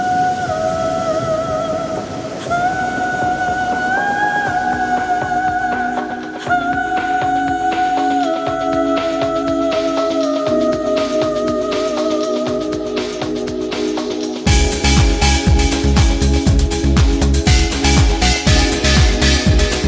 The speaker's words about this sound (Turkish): Hadi bakalım şarkı çalalım o zaman.